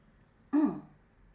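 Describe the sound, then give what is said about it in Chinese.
A single short throat-clearing cough bursts out from a speaker who has been talking at length, lasting about a quarter second, then quiet returns. “讲了很多话的时候我就开始咳嗽，Sorry， 这个咳嗽把我咳多久？”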